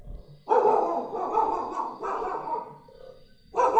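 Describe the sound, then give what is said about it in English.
A dog in Vrindavan barks loudly, giving a few drawn-out, raspy barks spaced about a second and a half apart, with no voices. “One of the Vrindavan doggies.”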